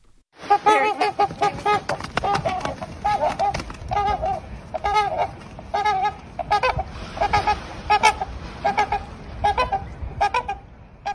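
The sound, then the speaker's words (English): Two trumpeter swans in Toronto, Mango and Charlotte, honk loudly and excitedly as they reunite after a brief separation, flapping their wings and trading a rapid, overlapping stream of brassy, nasal calls for about ten seconds, with a steady rustling noise underneath and no talking. “Mango and Charlotte, two trumpeter swans from Toronto who reunited happily and loudly last week after a brief separation.”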